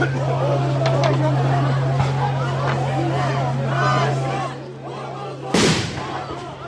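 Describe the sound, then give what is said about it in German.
A loud explosive boom bursts sharply overhead near the end, in a park, cutting through a murmuring crowd and a steady low mechanical hum that runs beneath the voices. “Über uns explodieren immer wieder relativ starke Dinger.”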